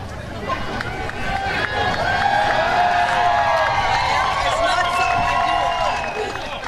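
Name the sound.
crowd chatter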